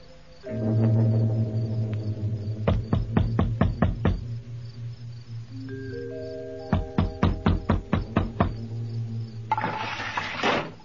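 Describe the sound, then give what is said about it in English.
Two quick bursts of sharp knocking on the door of a small hotel opposite the station, about six or seven raps each, separated by a pause, over a steady low humming drone, ending with a brief rush of noise. “You'll have to knock on the door.”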